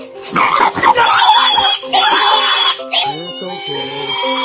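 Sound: pig squealing and oinking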